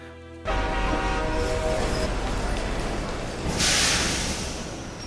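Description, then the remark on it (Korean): A steam train rumbles in through the darkness, spouting fire, with a broad, heavy roar that begins abruptly, carrying faint tonal whistling, then swells into a bright hissing burst near the end before easing off. “어둠 속에서 용의 고함소리 같은 소음이 천둥처럼 울리고 불을 퍽퍽 뿜으며 두 개의 커다란 눈이 튀어나오고 사람들이 모두 소리를 지르면서 달려가는 소동 속에 그들도 결사적으로 매달렸다.”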